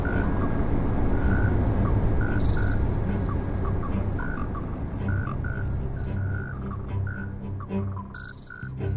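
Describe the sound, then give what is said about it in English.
Crickets chirp steadily in repeated high pulses by the water, layered over a deep, constant low rumble from a freighter across the water. No one speaks. “By a freighter across the water, cricket streams.”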